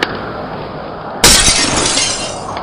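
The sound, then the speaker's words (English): A house's window glass is broken and pushed out into the yard, smashing with a sudden, loud crash partway through, followed by a bright spray of shattering and tinkling shards that rattles on until the end, after a stretch of dull rumbling background noise. “He doesn't just break the glass in the window, he pushes it out to litter the people's yard!”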